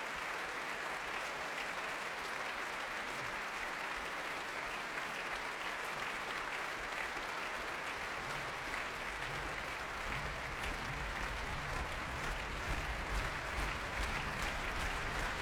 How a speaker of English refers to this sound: Pavel Yerby brings the Orchestre de Paris to its feet as he and Janine Jansen take the applause here in the Royal Albert Hall.